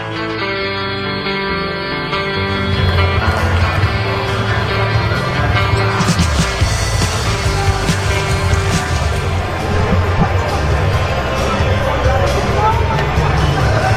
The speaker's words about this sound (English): Wednesday evening crowd here at Huntington Park enjoying, haven't enjoyed any runs in this one yet.